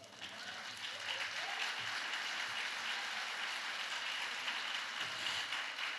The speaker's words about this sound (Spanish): Dale el aplauso.